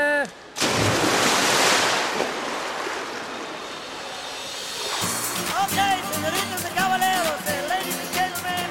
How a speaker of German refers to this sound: Ich gehe jetzt ins Wasser. Arschbombe!